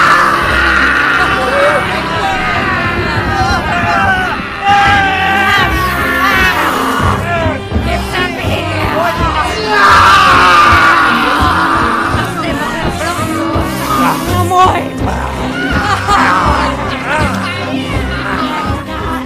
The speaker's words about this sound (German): Jonathan Harker schossen die Tränen in die Augen, als er mit ansehen musste, wie sich die Meute der Untoten kreischend auf Van Helsing stürzte.